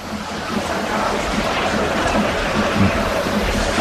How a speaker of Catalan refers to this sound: Continua la cortina d'aigua.